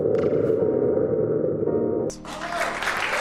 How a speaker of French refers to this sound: Bon, on écoute un bruit de boîte à tonnerre.